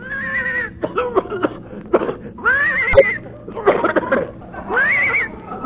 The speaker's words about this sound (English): I think the horse is hoarse.